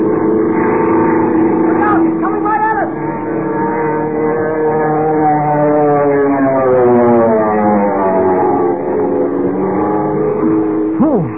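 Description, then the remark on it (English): A silver monoplane's motor roars loudly and continuously as it power-dives over a field, wind screaming through the struts, its droning pitch swelling and then sweeping downward as it rushes past, with no voices present. “Without warning, it went into a power dive, hurtling down on Kent, Jimmy, and the commissioner like some giant bullet, motor roaring, wind screaming through the struts.”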